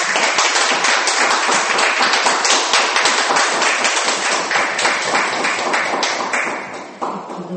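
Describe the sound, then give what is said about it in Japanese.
A group of people applauds in thanks to God after a prayer, with dense, steady hand clapping that runs for several seconds without pause. It stays loud throughout and thins out slightly near the end, with no voices. “じゃあ神様が成してくださったことに感謝して、まあ、それを本当に封印するというかシールする意味で神様に感謝の拍手をしたいと思います。”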